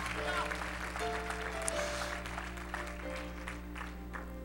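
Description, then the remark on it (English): An audience claps hands together while praising God, in a dense, steady wash of applause, with sustained low musical tones humming underneath throughout. “Let's clap our hands again.”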